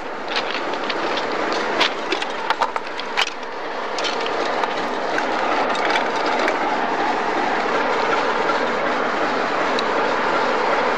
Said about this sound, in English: I stopped at the signal, and I'm just going to get off the engine and then go onto the phone and tell the signalman that he's got me on the wrong road.